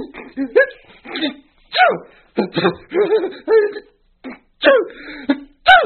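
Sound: sneeze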